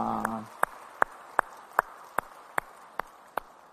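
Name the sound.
audience applause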